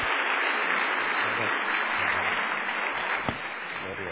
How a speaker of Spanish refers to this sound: Un buen fuerte abrazo de aplauso.